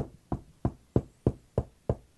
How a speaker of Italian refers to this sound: Ecco, io sto alla porta e busso.